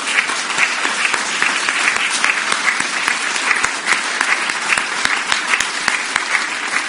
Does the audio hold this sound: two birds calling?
no